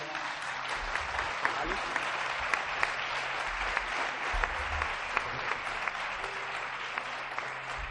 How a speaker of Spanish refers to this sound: Vamos a pasar un aplauso para Raymond Moody.